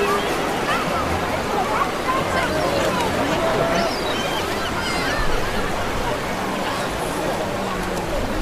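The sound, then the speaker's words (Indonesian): Steady surf washes continuously along a crowded shoreline at Sanur Beach in Bali, with a low murmur of many indistinct voices mixed into the constant roar throughout. “Di pantai ini juga, aku mengenal”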